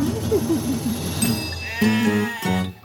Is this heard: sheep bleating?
yes